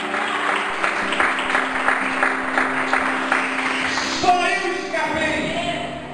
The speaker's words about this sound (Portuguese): E aplaude o nome do Senhor. Aleluia.